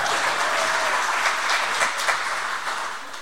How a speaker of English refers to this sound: So anyway, I just thank you for giving the round of applause, because it's so difficult to walk into something new like this and to try to get everything just right